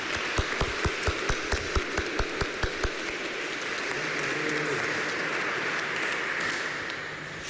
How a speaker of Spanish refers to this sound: Muchas felicidades, les damos un fuerte aplauso y que menos un besito, ¿verdad?